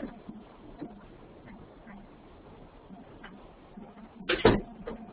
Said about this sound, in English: Let me just shut the door here.